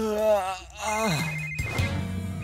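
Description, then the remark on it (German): Ryder's Pawpad rings at sunrise, waking him: an electronic ringtone playing a bright, warbling melody of stepped tones, rising and falling in a quick repeating pattern, moderately loud with no talking over it. “Die Sonne ging gerade auf, als Ryders Pawpad ihn aus dem Schlaf riss.”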